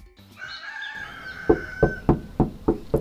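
Six firm, evenly paced knocks on a door ring out, following a rooster's crow that carries on faintly behind them.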